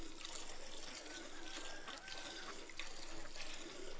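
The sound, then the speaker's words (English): A man bending under a big black cow in an open shed beside the backyard milks it by hand, milk squirting in a steady rushing hiss with a few brief spurts rising out of it, fairly loud, with no voices. “Gauri saw a man bending under the cow and squeezing out milk.”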